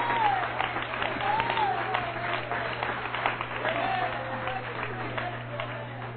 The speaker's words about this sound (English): Would you clap your hands, everybody? Hallelujah.